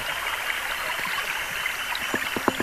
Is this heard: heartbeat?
no